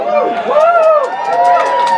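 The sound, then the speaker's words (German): A cinema audience at a screening of The Room bursts into loud, sustained cheering as the film's title appears, many voices whooping and shouting together with rising and falling cries over a dense roar of crowd noise. “Der Saal bricht in Jubel aus, als der Titel des Films erscheint, der erste von vielen emotionalen Ausbrüchen in den nächsten 99 Minuten.”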